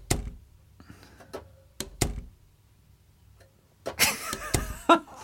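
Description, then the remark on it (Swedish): A few sharp, isolated clacks followed by a louder rattling thump near the end, like a door being pushed shut and latching, with no voices. “Men är det en dörr? Ja, det är en dörr.”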